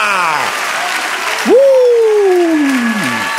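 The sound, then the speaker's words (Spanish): A crowd applauds steadily throughout in praise to the Lord, a dense wash of clapping, while a loud voice calls out over it with long, drawn-out shouts. “Denle otro aplauso al Señor.”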